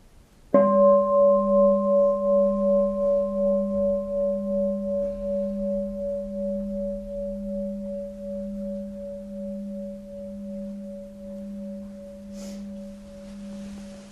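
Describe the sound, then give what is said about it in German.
A single bell is struck once, then rings on with a low, steady hum and a clear higher overtone, pulsing gently as it slowly fades over many seconds. No one speaks. “Vielleicht hören wir an der Stelle eine Glocke.”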